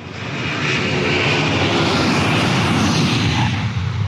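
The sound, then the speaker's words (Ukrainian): A private jet airplane with Austrian registration OE-OI-HSN, operated by Lauda Motion and flying from Minsk to Kyiv, roars with a loud, steady engine rush, continuous throughout, a broad whooshing drone with no voices. “16 січня цього року, після засідання групи, з Мінська до Києва прилетів борт із австрійською реєстрацією та бортовим номером OE-OI-HSN.”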